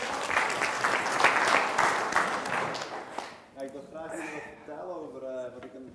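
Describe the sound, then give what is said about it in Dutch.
Audience applause for a man handed a microphone, a dense and steady patter of many hands clapping, lasts about three seconds, then stops as a man begins speaking. “Geef hem even een applaus, hè?”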